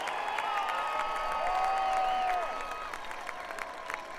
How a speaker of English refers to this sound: Come on, let's give him a big round of applause. I want to hear these people. We can make more noise than that. Come on.